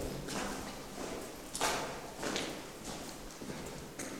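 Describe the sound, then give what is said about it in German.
Hard-soled footsteps walk at an unhurried, steady pace across a stone floor toward the end of a vault built of quarry stone and dating from the construction of a Templar chapel. Each step rings with a short echo in the enclosed vault. No one speaks. “Wir gehen mal hier ans Ende.”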